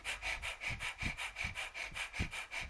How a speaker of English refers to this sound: the nose, equal emphasis in and out through the nose, breath of fire, called Kapalabhati, skull cleansing breath, which helps to clear out the sinuses.